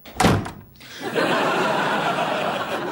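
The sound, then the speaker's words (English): A single loud door-slam sound effect, played in a studio, hits sharply, then gives way to a steady burst of laughter from a group. “You can't slam a door in a studio. I bet he's got a sound effect. I do.”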